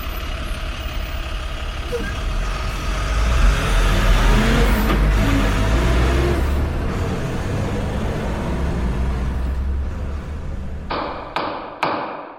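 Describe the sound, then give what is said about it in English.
A truck engine rumbles loudly and steadily, revving as the vehicle pulls away, with a few sharp thumps and clanks near the end as the noise cuts off. “Why don't we start to get on the street, get into our truck, and start selling these Hobbs bootleg stuffed animals?”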